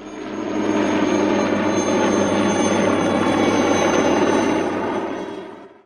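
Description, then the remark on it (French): A helicopter flies by, its engine roaring and rotor throbbing steadily for several seconds, fading in at the start and dropping away at the end. No one speaks. “Si j'étais une invention, je serais un hélicoptère.”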